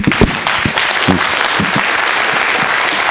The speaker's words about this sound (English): With great faith in your heart. Z wiarą w swoim sercu. For the next 60 seconds. Przez najbliższe 60 sekund. Applaud your king Jesus.